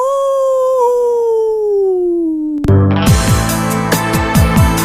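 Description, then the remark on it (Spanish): A single long werewolf howl, loud, drawn out for a couple of seconds with slowly falling pitch, then abruptly cut off by loud, rhythmic music. “El hombre lobo. ¡Aú!”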